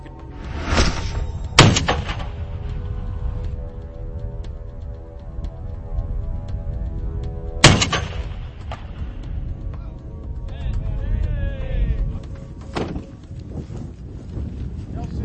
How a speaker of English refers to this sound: All we had was paper targets, and we decided that was kind of a waste. If you're going to be shooting a 50 cal, we got to have something to see. We're not going to be like punching holes at paper. So let's start shooting.